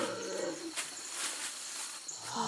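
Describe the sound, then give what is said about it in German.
A female giant anteater, just caught with a noose by a vet and given a sedative injection, gives rough, drawn-out roaring calls before the drug takes effect, fairly faint, rising and fading against a hissy outdoor background with no one speaking. “Bis diese wirkt, brüllt das Tier aber ganz schön rum.”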